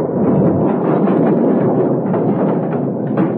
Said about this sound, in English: They prepared the blasting powder, lit the fuse, then stood back, waiting for the explosion. It'll blow up in just a second,